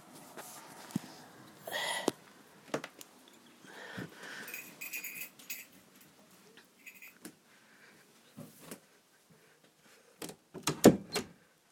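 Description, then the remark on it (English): A door is handled and shut: scattered shuffling and soft bumps, then a sharp latch click and a couple of loud thuds near the end. No one speaks. “Just closing the door because I think that's sister coming in”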